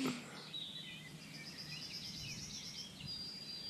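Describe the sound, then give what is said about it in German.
Birdsong outdoors, now declining in intensity: thin high whistles and chirps drift over a soft low rumble of open-air background noise, with no one talking. “Aber man merkt jetzt deutlich, dass es in der Intensität des Vogelgesanges rückläufig ist, was nicht heißt, dass noch die ein oder andere Art dann hier irgendwie noch auftritt.”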